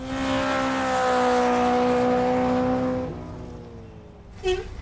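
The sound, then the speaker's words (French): A car engine roars at full throttle during a police chase, holding a steady high whine for about three seconds before easing off, followed by a short sharp squeal near the end. “Ah, monsieur le facteur, écoutez, je n'ai pas le temps de vous parler, je suis en poursuite policière avec la pédale dans le tapis.”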